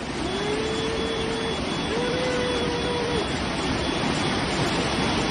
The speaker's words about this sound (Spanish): Como les estamos contando, este temporal de principios de septiembre va a seguir azotando en las próximas horas, y este sonido, el de las trombas de agua descargadas sobre Toledo.